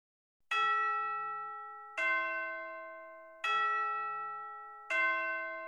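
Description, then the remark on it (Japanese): Four ringing bell tones struck one after another at an even, unhurried pace, each at a different pitch to form a short chime melody, every note sustaining and fading before the next. “鐘が鳴るの歌をドレミで真似して歌ってみよう。”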